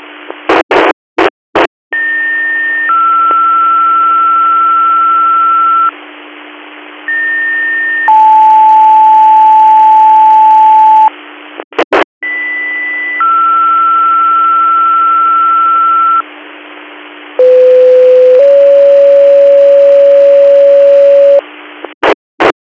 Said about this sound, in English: Negative Air Control to all Luigo Squad Monitor, second set of tones for your code 2 call, tag a center for mutual aid.